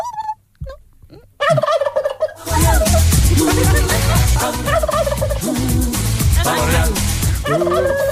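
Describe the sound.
A person imitates a turkey's gobble: after a few faint sounds, a loud, rapid, warbling gobble bursts out and continues in fluttering waves for several seconds, close to the microphone.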